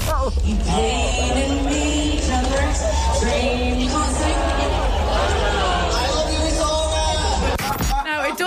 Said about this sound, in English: A crowd of like, you know, when you're in fifth class and you all have to sing together and you're all really shy. This is a festival crowd. You'd expect a bit more volume than this.